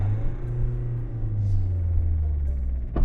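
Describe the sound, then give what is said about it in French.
A car engine drones low and steady as the car accelerates while towing another car on a strap, its pitch wavering as it pulls, with a brief sharp clunk near the end. “En fait, à un moment, elle a démarré. Donc tu t'es mis à accélérer plus vite que moi.”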